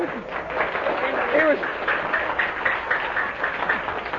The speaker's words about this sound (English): now what are you cheering?